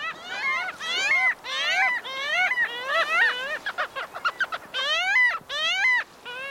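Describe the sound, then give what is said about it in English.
A parasitic jaeger gives a loud series of nasal, wailing calls, repeated in quick bursts with brief gaps, each note rising and falling; no one speaks. “This elegant buccaneer is a parasitic jaeger, a relative of gulls that is built for sprinting speed and predatory feats.”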